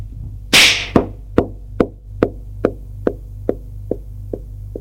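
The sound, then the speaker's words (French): A brief rushing burst, then around ten sharp, crisp slaps land on a man's face to wake him, in a steady, even rhythm, gradually softening, over a low background hum. “Réveillé par des claques qu'on lui donne sur la figure.”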